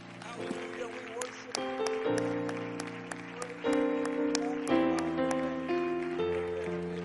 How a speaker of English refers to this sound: Would you give them one more hand clap of praise before you're seated?